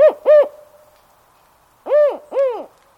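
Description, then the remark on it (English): A spotted owl gives a four-note hooting call, a sequence distinctive of its species, from deep within a northwest forest: two quick, low, rising-and-falling hoots, a pause of over a second, then two more. The call is fairly loud with no other sounds. “A spotted owl hoots from deep within a northwest forest, calling out a four-note sequence distinctive of this species.”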